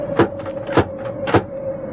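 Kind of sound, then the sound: household object, knocking on a door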